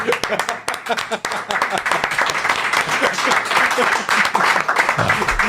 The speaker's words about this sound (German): Ich muss leider sagen, ihr wart dann 2 Sekunden zu spät mit dem Applaus.